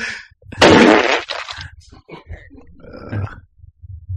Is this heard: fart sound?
yes